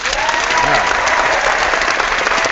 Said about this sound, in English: And that round of applause from the non-existent 2 Daft Yanks studio audience. What do you mean? Goes to Burnley.